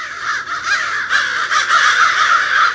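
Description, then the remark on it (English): A group of crows caws continuously, harsh overlapping calls layered on top of each other with no pauses, loud, forming a dense raucous chorus. “Three might be a crowd, but a group of crows is called a murder.”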